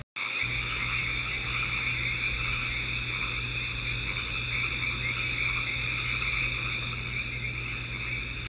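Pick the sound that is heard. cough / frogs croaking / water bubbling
frogs croaking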